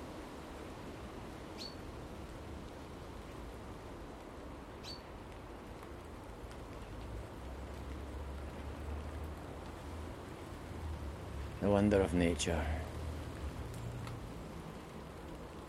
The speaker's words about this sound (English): The wondrous rain that's getting heavier.